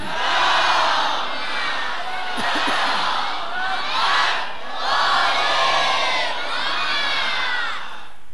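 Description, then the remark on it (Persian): A large crowd recites salawat together on the night of Tasu'a, many voices chanting loudly in unison in several rolling waves of sustained, overlapping sound, with no single voice standing out. “به شرط اینکه آیان هدیه محضر مقدس ولی عصر و نثار روح اموات در این شب تاسوعا، در این شب عباس، اجماعا یه صلوات مرحمت کنم.”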